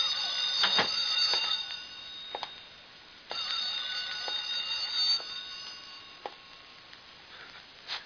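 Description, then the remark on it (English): A shrill, metallic alarm clock rings continuously, a dense high-pitched clatter that briefly dips around the third second before resuming, with occasional clicks and knocks. No one speaks. “Sounds louder when it stops ringing.”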